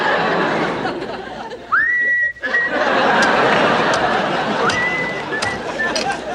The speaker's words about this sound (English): I don't understand. How can you whistle at a time like this?